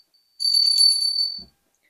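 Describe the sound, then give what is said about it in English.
A small hand bell rings with a bright, high, shimmering tone for about a second, then stops with a soft low thud as it is set down. No voices. “I can put that little bell down now.”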